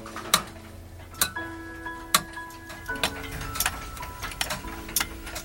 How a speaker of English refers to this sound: Alone, yet surrounded by a symphony of clicks, tocks, and ticks.